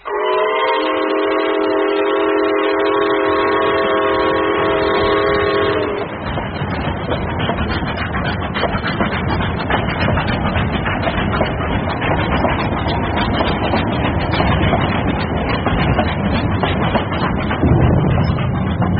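A train whistle blows a long, steady multi-toned blast over the rumble of a moving train, then cuts off, leaving a loud, continuous clatter of wheels and carriages on the rails.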